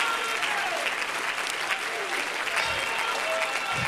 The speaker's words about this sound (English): Come on and clap your hands right now. Come on and clap your hands right now.